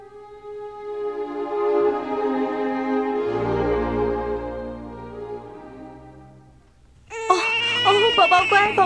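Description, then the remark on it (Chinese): A baby's loud, high-pitched, piercing wailing cry bursts in near the end, after several seconds of steadier, droning tonal sound. The baby is sick. “宝宝别哭，啊，孩子的爸，你快来啊，我们的宝宝生病了。”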